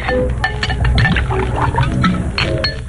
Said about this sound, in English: Pour yourself a drink.